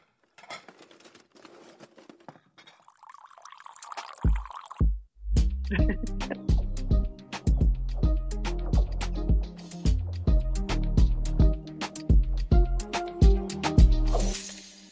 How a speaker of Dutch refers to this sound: Nou ja, ik heb haar maar gewoon een eigen jingle gegeven.